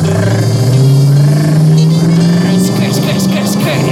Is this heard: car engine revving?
yes